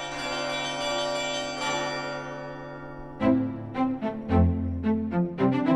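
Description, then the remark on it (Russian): Church bells ring: a long resonant hum lingers, then several bells are struck in a quick, uneven peal, each strike loud and clanging over the sustained tones. No one speaks. “А вот раньше известно, что советская власть колокольный звон не жаловала.”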